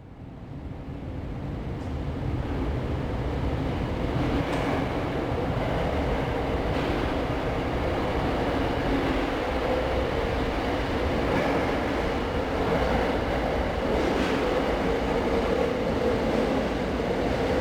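A Tokyo Metro Ginza Line subway train leaves the Omotesando station platform in the daytime, its heavy roar swelling within the first couple of seconds and then holding steady and loud, with rattling wheels and a low mechanical drone throughout.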